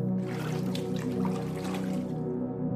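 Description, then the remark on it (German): Soft, continuous water sounds with gentle trickling and sloshing, steady, as people slide into the warm water of a bathhouse pool. No voices. “Wir legen unsere Kleidung ab und lassen uns in das warme Wasser gleiten.”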